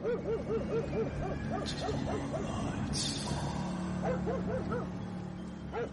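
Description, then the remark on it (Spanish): A dog barks in quick, repeated bursts of short yapping barks, fairly soft, with brief pauses between clusters and no voices around them. “A baja intensidad distinguía los ladridos del perro.”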